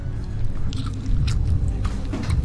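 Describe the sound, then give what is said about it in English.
Moist chewing and crunching, with soft irregular bites and mouth noises repeating over a couple of seconds, moderately loud with no talking. “Just sounds like eating, doesn't it?”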